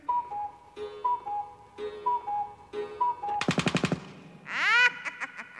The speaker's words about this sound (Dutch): Want slaat de klok 5 uur.